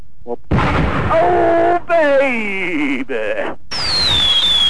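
A loud run of firecracker blasts in several bursts, broken by short gaps, with shrill whistling tones sliding downward over the crackling noise.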